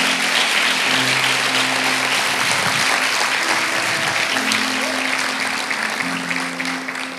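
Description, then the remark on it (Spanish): A church audience applauds Jesus loudly and steadily for several seconds, a dense wash of clapping with sustained organ-like tones droning underneath, tapering slightly at the end. “Dale ese aplauso fuerte a Jesús.”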